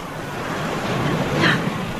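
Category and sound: nature, lapping of waves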